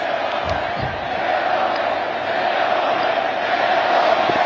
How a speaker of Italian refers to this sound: Un concetto questo che lo pone in continuità con Bergoglio, che Papa Leone XIV ha nominato esplicitamente davanti alla piazza, raccogliendo gli applausi generosi e poi ancora i cori scanditi per lui.